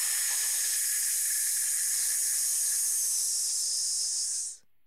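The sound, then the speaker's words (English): A long, steady hiss of air pushed out through the teeth during a breathing exercise, the abdominal muscles pulled in as the air is pushed out, held evenly for over four seconds before cutting off abruptly. Bright and sibilant, with no talking over it. “Take a deep breath in, allowing your abdominal muscles to expand, and then pull them in as you push the air out, making the hissing sound.”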